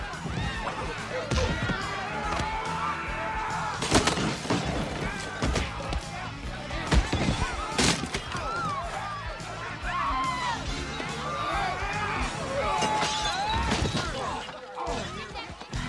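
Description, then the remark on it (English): A chaotic bar brawl, with several loud wooden smashes and crashes, one like a chair breaking over someone, ringing out over a rowdy crowd that keeps shouting and whooping throughout. “Other than the fact somebody hit me with a chair.”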